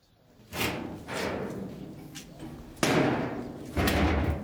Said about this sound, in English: This heavy basement door is typical of the kind of protection people relied on to shield them from Iraqi bombardment.